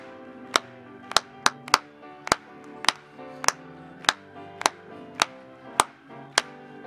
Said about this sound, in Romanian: Haideți doar să o aplaudăm noi. Amin. Încă o dată, să o aplaudăm.